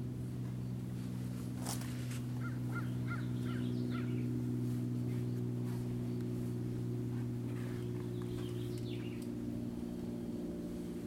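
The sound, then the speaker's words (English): Finches, vireos and juncos chirp and trill in short scattered bursts over a constant low mechanical drone that fills the background. “I hear the finches and the vireos and the juncos, and they're just singing delightfully, and I feel delight.”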